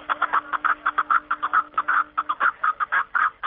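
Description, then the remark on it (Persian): A Himalayan snowcock calls in a rapid run of short, clucking notes, loud, repeated steadily for several seconds with no voices present. “همکارم شاهین نیز گزارش خود را با ققره کپک دری شروع کرده است”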